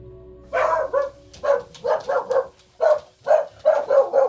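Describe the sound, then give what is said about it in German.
Dogs, mostly from Spain, bark in a quick, uneven series, about ten sharp yaps over a few seconds, moderately loud, with no talking in between. “Die Hunde, die wir haben, die sind alle, kommen fast alle aus Spanien.”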